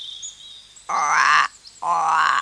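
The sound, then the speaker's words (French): Two loud, buzzy frog grunts, each about half a second long, follow one another with a short pause between them against a quiet background. “Pas moi. Grogna la grenouille, toujours cachée sous les couvertures.”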